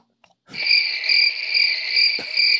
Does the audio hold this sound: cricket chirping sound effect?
yes